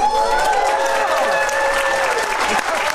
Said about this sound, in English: All those people clapping for Sonia Mao are community leaders themselves, elected officials, volunteers, advocates for causes galore.